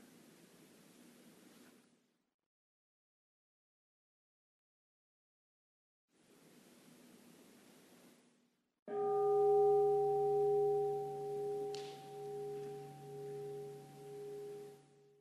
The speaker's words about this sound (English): When you hear the sound of the bell, again, just listening to that, receiving the sound.